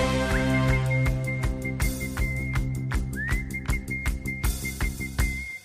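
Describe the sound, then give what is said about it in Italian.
Someone whistles a one-note song, a single sustained pitch, briefly sliding into it now and then, over a band playing a steady, punchy beat with bass and drums. “e anche facile da fischiettare.”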